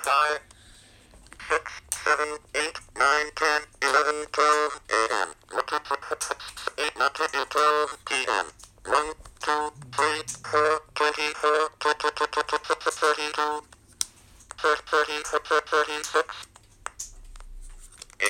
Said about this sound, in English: This is the first ever talking clock that was ever produced that uses speech synthesis.